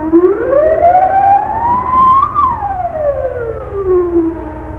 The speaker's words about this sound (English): Alarm! Set off the alarm! It's that Nazi, the one we call Yah. He's escaped.